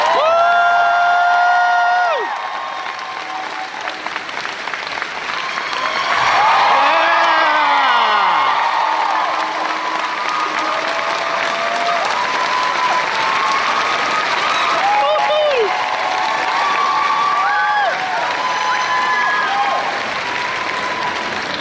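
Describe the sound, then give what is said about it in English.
A large crowd at Planet Comic Con bursts into loud, sustained applause as Harry Elwes is brought on stage, with cheers, whoops and high-pitched shouts rising over the clapping, which continues steadily throughout without any talking. “What a reception. What a crowd.”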